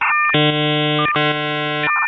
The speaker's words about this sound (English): This is the login algorithm of a 56K modem.